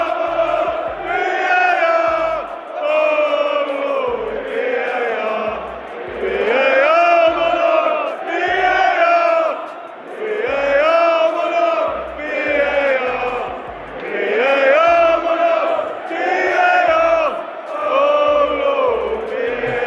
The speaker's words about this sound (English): Just a reminder that football fans are both the dumbest and the smartest people on God's green earth. That was Tottenham Hotspur fans singing their love and appreciation for VAR, which once again was at the center of attention